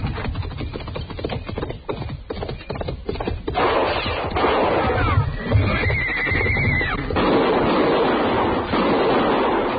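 A horse whinnies partway through by a river, a high drawn-out neigh rising above a steady rush of wind or surf-like noise that fills the whole recording.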